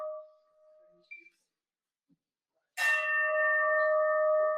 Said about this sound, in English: Bit of a boring bell sound today, sorry about that. Try to get a better one next week.